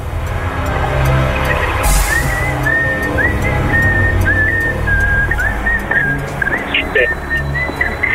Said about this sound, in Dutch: Ah, nee, het was het gefluit van Kill Bill uit L Driver.